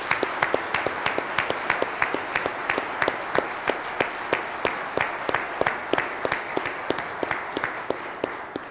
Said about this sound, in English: But I think we need to give him a round of applause for his dedication and service.